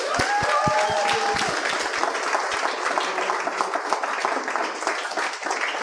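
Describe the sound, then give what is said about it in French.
A crowd breaks into sustained applause for the show's guests, dense and steady throughout, with a few sharp individual claps and a brief whistle-like tone standing out at the start. “Cette semaine, à l'émission, j'aimerais ça qu'on donne bonne main d'applaudissement à mes invités.”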